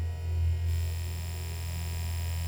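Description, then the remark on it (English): A steady, low electrical-sounding hum drones continuously in City Infinite, a game, fairly loud and unchanging, with faint higher tonal overtones and no voices. “Now something is humming.”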